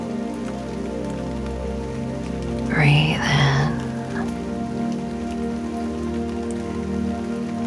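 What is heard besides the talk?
rain falling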